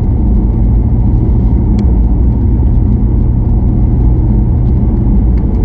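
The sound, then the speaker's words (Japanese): A diesel car engine runs steadily, a constant low rumble and mid-frequency drone with faint ticking on top, no voices and no change in pitch throughout. “あとディーゼルの車でもそうだ、多少は感じられますかね。”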